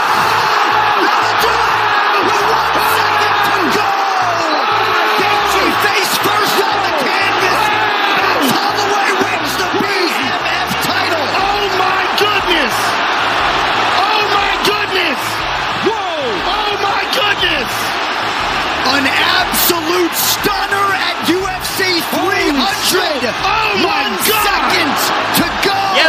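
A packed UFC arena crowd roars continuously and loudly, a dense wall of cheering, whoops and yells, with sharp thuds and bangs punching through the noise for the whole stretch, reacting to Holloway knocking out his opponent in the middle of the ring in the final round.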